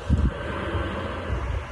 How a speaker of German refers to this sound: Und es steht tatsächlich auf der Verpackung von dem Ventilator, der daneben rumbläst. Also es blasen hier quasi 2.